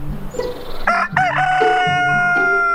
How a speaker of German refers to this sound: Stolze 140 dB können das sein. Am Hahnohr gemessen, von der Uni Wien. Die MusikwissenschaftlerInnen wollten der Frage auf den Grund gehen, warum Hahnkrähen manche Menschen so sehr nervt